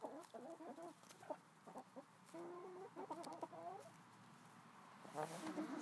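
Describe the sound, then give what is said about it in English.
Several chickens in a flock cluck and chatter, with short overlapping calls and a few higher squawks in an uneven, busy rhythm, with no voices and a steady outdoor hum underneath. “And I'm so excited that you're here today to see what this flock is up to.”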